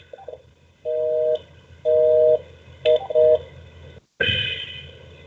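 Telephone keypad dialing tones as a new phone number is dialed over Skype: a series of steady electronic beeps, some long and some short, separated by brief gaps, followed by a louder, noisier line sound at the end. No one speaks.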